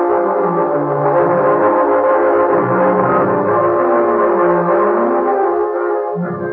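A train rumbles steadily along the tracks as it climbs through the Cajon Pass. It is loud, its low churning mixed with a sustained droning tone that holds for several seconds, with no voices.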